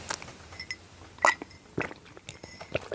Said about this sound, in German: Oh, Stimme ist gerade weg. Ja, Moment, ich muss einen Schluck Wasser trinken, damit ich euch hier nicht voll huste.